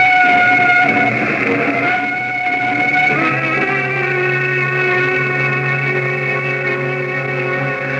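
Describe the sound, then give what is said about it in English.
A train pulls in with a loud, steady rumble and long, shrill squealing tones, like brakes or a whistle, whose pitch shifts partway through as it slows. No one speaks. “There's a train which will bring me into Waterloo at 8.”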